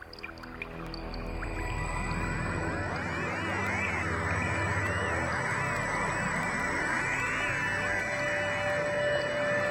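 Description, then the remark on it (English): A NASA galaxy sonification, made by turning waves from a galaxy into sound: eerie, swooping synthetic tones glide up and down over a low rumbling drone, building into a dense, steady wash of overlapping pitches with no talking. “So NASA took these sonic galaxies, looked at the waves, and then put sound to it.”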